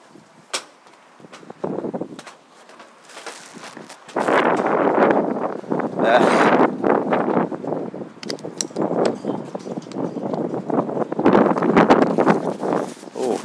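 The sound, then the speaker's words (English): Gusty wind buffets the microphone in loud, rumbling bursts, starting softly and then roaring almost continuously after a few seconds, with brief dips between the strongest gusts. “Oh, it's windy.”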